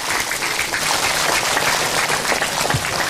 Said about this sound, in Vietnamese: Xin một lần nữa cho một tràng pháo tay khen ngợi đạo tràng của chúng ta.